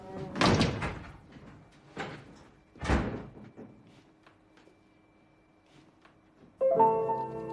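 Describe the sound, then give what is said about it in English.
A door in a bar bangs shut hard as a woman strides out after being ordered to leave, followed by a couple more heavy thuds and rattles, then quiet before music swells in at the end. “Lucas yells at April and points to the door. She strides out and Ib watches with interest from the end of the bar.”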